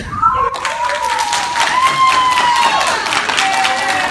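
A family in a courtroom breaks into clapping and emotional crying as the judge announces a man will go free, after a brief quiet start, with high, wavering wails rising over dense, steady applause that stays loud until the end.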